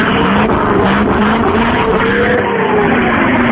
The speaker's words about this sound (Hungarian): Hát végül is nem tudom, olyan 40-50 autó van itt most összerakva, egy kis motorhangot. Hallod? Barátom, egy kicsit padlózz, adjunk egy kis motorhangot itt a rádiónak.